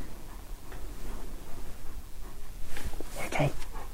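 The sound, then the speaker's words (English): A big German Shepherd pants steadily in a room while its heavy feet and claws tick and shuffle on the floor, with a louder rustling burst of movement near the end. “He certainly looked pretty inquisitive, looking around, panting.”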